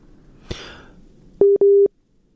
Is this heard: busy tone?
yes